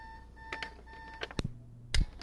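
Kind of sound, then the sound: signal or alarm, alarm beeping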